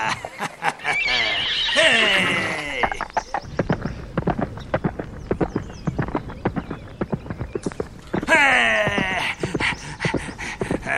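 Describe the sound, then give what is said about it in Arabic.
A horse whinnies loudly with a quavering, descending neigh, then hooves clip-clop in a steady rhythm before a second long whinny near the end. “حسناً أيها الحصان الجميل، خذني إلى مكان يوجد فيه الكثير من الغزلان.”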